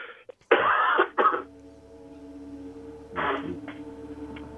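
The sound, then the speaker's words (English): A person clears their throat loudly in a rough, gravelly burst, then after a pause gives a second shorter, softer throat clear, with a faint hum underneath and no talking. “We've just got to clear the line, and you can clear your throat.”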